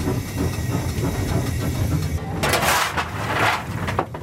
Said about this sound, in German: Und weiter geht's bergauf nach Überwiesenthal mit einer Dampflok der Baureihe 99.